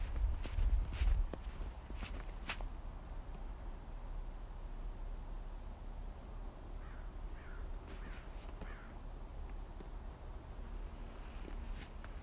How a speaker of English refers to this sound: Another crow flying over the house.